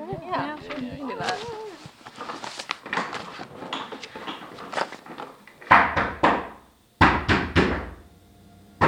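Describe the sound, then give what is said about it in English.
Loud knocking on a door in two quick bursts of about three raps each, following a stretch of people talking in the background. “did you lock yourself out? Tell her we won't open the door unless she gets us coffee.”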